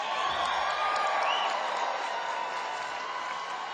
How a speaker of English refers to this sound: Thank you for the clapping. Thank you.